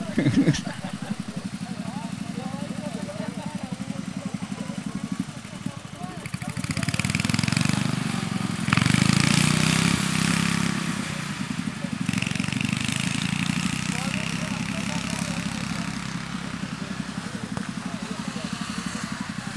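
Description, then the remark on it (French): Racing lawn tractor engines drone steadily and rev during a lawn tractor race, with the roar swelling louder and rougher for a few seconds midway before settling back to a continuous buzzing hum. “Ça fait longtemps que tu es pilote de tracteur tondeuse ?”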